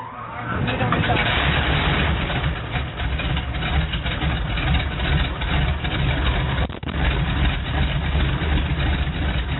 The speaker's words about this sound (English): the ground has given us the clear to start both engines. Will you do the start, please?